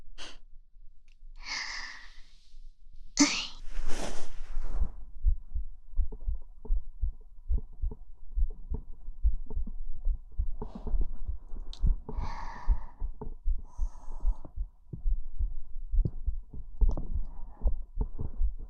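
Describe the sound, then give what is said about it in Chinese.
A girl's heartbeat thumps steadily, low and muffled as if heard through a chest, with a few soft breaths and sighs near the start and no talking. “这样听女孩子的心跳，还是第一次吧。”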